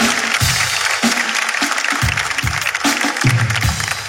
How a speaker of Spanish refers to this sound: Un fuerte aplauso para el público que lo están haciendo increíble. Muchas gracias.